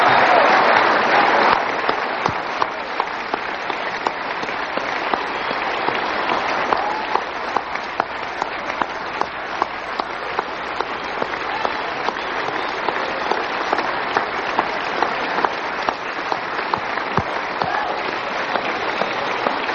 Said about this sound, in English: A big hand while they go back to their seats.